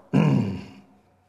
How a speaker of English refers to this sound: The lion will roar.